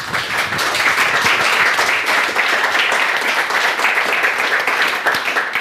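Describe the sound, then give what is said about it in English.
Steady, dense applause from a sizable crowd welcoming a speaker before a talk on cellular base station technology, many hands clapping at once in a continuous loud wash with no pauses, sustained for several seconds. “So, without further ado, please a warm welcome applause for Harald.”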